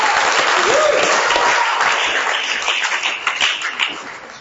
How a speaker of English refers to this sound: Let's just give God his applause for what he's going to do. Amen.